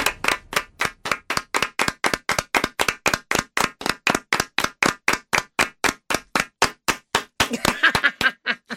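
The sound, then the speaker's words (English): A group on a 106.5 morning radio show claps in unison, about thirty sharp, evenly spaced claps at a steady quick beat, loud and without talking, turning slightly ragged near the end. “A round of applause doesn't sound great when everybody is together at the same time.”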